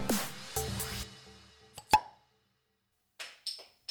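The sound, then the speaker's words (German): A bottle of Weizen (wheat beer) is opened: a few clinks and rattles, then one sharp cap pop, and after a short silence some brief fizzing hiss. No one speaks. “Also, mach dir mit uns ein kühles Weizen auf und genieß die Folge.”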